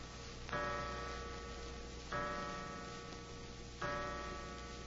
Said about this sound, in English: Suddenly, a clock chimed the hour, an hour that now seemed foreboding, sinister.